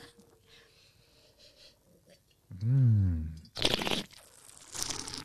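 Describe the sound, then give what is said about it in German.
A wet slurping of wine sucked through the lips in two noisy bursts, following a low hummed vocal sound after a quiet start; during a wine tasting the wine is slurped to draw oxygen into the mouth so its aromas open up. “Dieses Schlürfen macht man ja, um ein bisschen mehr Sauerstoff in den Mund zu kriegen, damit der Wein einfach seine Aromen auch im Mund noch etwas mehr öffnet.”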